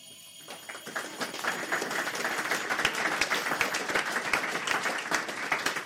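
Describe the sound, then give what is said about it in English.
An electric bell, pressed while air is let back in around it, rattles with a rapid, continuous metallic clatter, starting faint and swelling louder over the first couple of seconds, then ringing steadily with no voices. “So then if I press the bell while you're letting the air back in, we should be able to hear it starting to get louder.”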